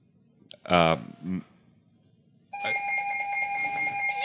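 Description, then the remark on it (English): A telephone rings loudly and steadily for the last couple of seconds, a bright trilling tone, signalling an incoming call from the 1,000th listener of the live show IBWIP. Before it comes a brief, sharp burst of sound over a low background murmur. “That sound can mean only one thing. We have our 1,000th listener on the phone.”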